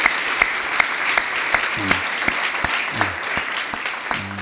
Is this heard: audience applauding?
yes